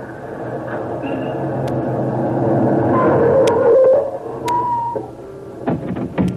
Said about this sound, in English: Better shut that motor off